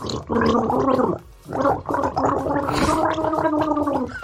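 Someone gargles water while humming a melody, producing a bubbling, warbling tone that rises and falls in pitch, broken by a short pause before continuing steadily.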